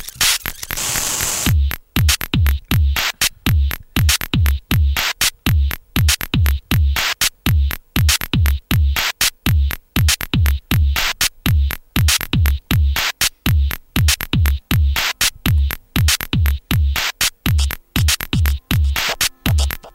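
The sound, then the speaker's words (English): A long electronic intelligent dance music track by an English electronic duo: loud, dense, glitchy percussive hits pounding in a steady, mechanical rhythm with heavy low end and hissing noisy textures, playing without any voices. “Barely getting into the song there, which is quite long”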